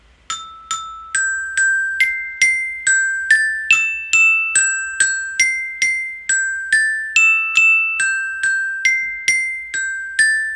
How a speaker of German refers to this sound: Diese hohen Töne, die dazukommen, die musst du dir eigentlich tiefer vorstellen. Aber das Glockenspiel war sehr limitiert. Also diese zwei hohen Töne, die sind eigentlich 5 Oktaven drunter statt drüber.